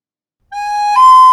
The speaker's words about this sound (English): And that's a police car rushing to find a burglar.